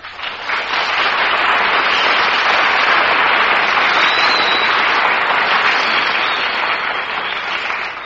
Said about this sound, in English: That's an announcement that really deserves applause.